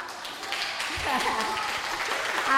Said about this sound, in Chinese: 好，小朋友你们有偏心呐、哈，有送给你们礼物你就掌声不断了。